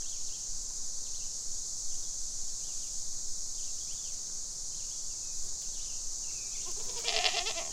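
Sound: goats bleating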